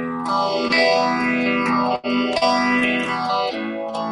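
E minor and A chords strummed on an electric guitar through an amp with a little reverb and a Univibe phaser pedal, the tone sweeping in slow, repeating swirls. Sustained and loud, with a brief break between chord changes and no voices.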